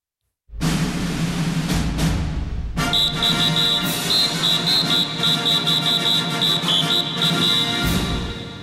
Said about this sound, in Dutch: Tim, jij maakt het gebaar van een fluit. Dus die ga ik maar proberen in te drukken.